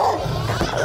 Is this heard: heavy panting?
no